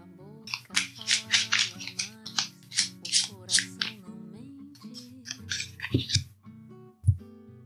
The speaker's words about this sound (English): Okay, so let's shuffle these cards.